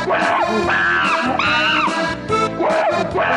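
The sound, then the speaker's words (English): A real, happy chimpanzee screams, twirling his hand, in a run of loud, shrill, harmonic calls that swoop up and down in pitch, several overlapping bursts filling the whole stretch with no talking. “Listen, you can tell it's a real monkey. You can hear it.”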